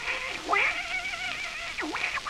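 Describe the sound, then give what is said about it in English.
A kitten that had gone to sleep inside a boot meows in a continuous, drawn-out series of high mews whose pitch swoops up and down, with no one talking. “The kitten went to sleep in it.”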